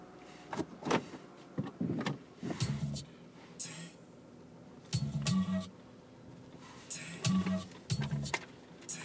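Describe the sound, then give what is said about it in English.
A motorized garage door closes in a series of whirring, rattling bursts with sharp clicks between them, moderately loud. “Closing the garage door. Watching it close.”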